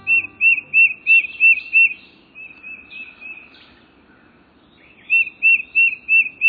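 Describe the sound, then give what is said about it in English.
A tufted titmouse sings a clear, rhythmic whistled song, bright repeated notes in quick series that fade to a softer warble midway and then return strongly, with no one talking. “This rhythmic whistled song is a quintessential sound of woodlands in the eastern U.S.”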